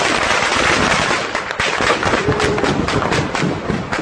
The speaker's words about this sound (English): This is sound from a video uploaded to social media. Claims to show civilians trying to evacuate eastern Aleppo as gunfire is heard during a negotiated ceasefire.